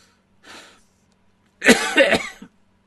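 A soft, breathy lead-in, then a close, loud burst of harsh coughing with a few rapid hacks lasting about a second, followed by quiet.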